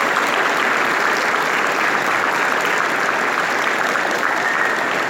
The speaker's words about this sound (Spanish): Así que le pido un fuerte aplauso para la coordinación, también para los profes.